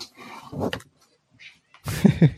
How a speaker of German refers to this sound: Ganz kurz, ich frage dich jetzt gleich was, aber ich muss tatsächlich auch meine Tür hier zumachen, sonst regnet es mir rein.